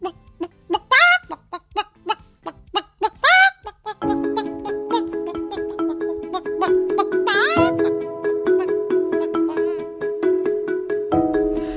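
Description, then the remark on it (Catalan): A hen clucks in a quick, uneven series of sharp calls for a few seconds, then a bright, steady musical jingle takes over and plays to the end. “Doncs ens van compartir, permeteu-me que rigui una mica, perquè aquest Ofici d'Educar s'ha engallinat, m'ha fet gràcia.”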